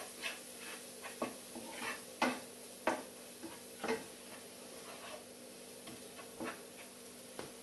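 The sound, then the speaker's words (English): Ground coriander and turmeric frying in a frying pan while being stirred, with a steady low sizzle and irregular scraping, clinking taps of a utensil against the pan, no one talking. “And mix that around really well so the spices fry up.”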